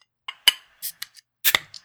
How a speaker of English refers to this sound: Can we crack this beer?